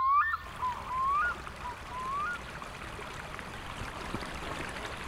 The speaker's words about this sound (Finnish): On märkä tihkosateinen päivä, nolla keli ei lunta maassa, kun me seisomme notkeasti solisevan Haaganpuron äärellä Helsingin Pirkkolassa.